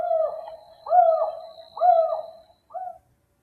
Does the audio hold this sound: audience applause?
no